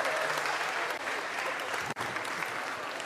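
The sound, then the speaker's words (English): A steady burst of audience applause for a participant taking a penalty shot, dense and even clapping filling the whole stretch, with a brief dip partway through before it carries on at the same level. “When you're ready, hey, round of applause.”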